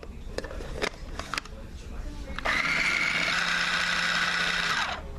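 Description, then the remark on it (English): A few sharp clicks and knocks, then a kitchen blender holding 60 grams of chicken, a carrot, a potato, half a leek and a spring onion starts up with a loud, steady whirring whine that holds for a couple of seconds before winding down. “in that blender I have 60 grams of chicken, which is about one small fillet.”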